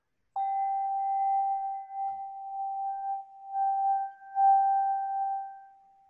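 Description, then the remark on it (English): A singing bowl rings with a steady, pure mid-pitched tone and faint higher overtones, sustained for several seconds with a gently pulsing loudness before fading at the end. “Let me play this bowl again for you, shall I?”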